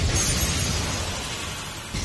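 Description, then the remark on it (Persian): The battle top Xcalius bursts apart in a loud, crackling crash, a burst finish. Dense shattering noise fills the whole moment, with a fresh jolt near the end and no voices. “مرد اکسکریوس با پایان انفجاری.”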